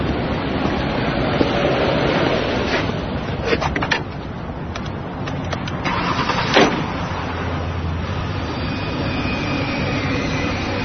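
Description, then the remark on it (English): A taxi's engine hums and rumbles steadily throughout the ride, with a few brief clicks and rattles over the continuous drone and no one speaking. “Hey, you gonna pay me or should I drive you somewhere else?”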